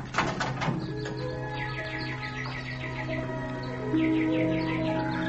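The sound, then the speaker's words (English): Nightingales sing in quick runs of repeated chirps and trills, steady over a sustained, humming tonal backdrop, with no voices. “How beautifully the nightingales sing.”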